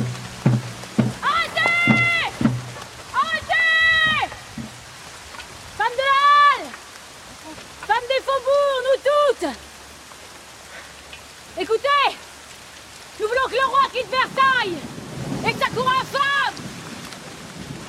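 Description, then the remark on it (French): Steady rain falls throughout as a continuous hiss, while loud voices call out in short, forceful bursts over it, in a scene of women marching to Versailles on 5 October 1789. “Il pleut, et la patriote des Halles, Louise Reine Audu, jouée par Céline Salette, donne de la voix comme on donne du canon.”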